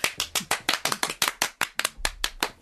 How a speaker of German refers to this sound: Jubel, Jubel, Jubel.